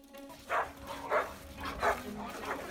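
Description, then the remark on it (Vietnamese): A pack of neighbours' dogs barks in four evenly spaced bursts against a steady background hum. “Cũng thấy bất bình với đàn chó hàng xóm, anh Đạt cho biết gia đình mình nhiều lần bị đàn chó hàng xóm cắn nhưng chủ không có bất kỳ giải pháp nào để việc này không tái diễn.”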